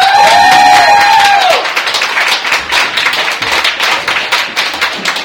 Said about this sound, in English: All right, ladies and gentlemen, huge round of applause